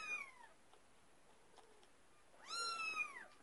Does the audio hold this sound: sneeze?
no